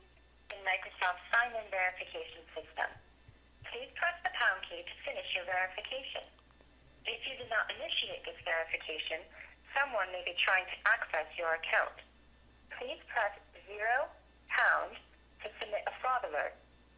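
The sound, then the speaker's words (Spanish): An automated authentication phone call, received when logging in as a user for the first time, plays over speakerphone: a thin, tinny telephone voice speaks in steady phrases separated by brief pauses, with a faint low hum beneath it throughout. “Y ahorita que me llegue la llamada, voy a poner el altavoz para que puedan escuchar lo que dice la máquina.”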